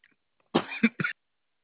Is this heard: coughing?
yes